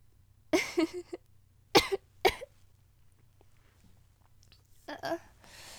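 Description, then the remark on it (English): A person coughs several times: a harsh burst early on, two sharp coughs in quick succession, then another raspy cough after a quiet pause, over a low steady hum. “I'm sorry I keep ruining moments with my dumb frickin' coughing.”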